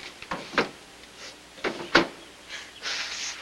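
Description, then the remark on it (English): A desk drawer slides open with a few sharp wooden clunks and knocks, followed by a short, rushing scrape of it gliding out, moderately loud with no voices. “Opening a desk drawer, she takes out a handkerchief.”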